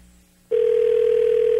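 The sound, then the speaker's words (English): A steady, fairly loud telephone ringback tone sounds over a faint line hiss during a phone call to a refrigeration business, starting abruptly after a short quiet pause and holding one unbroken pitch to the end. “Oh, it's ringing.”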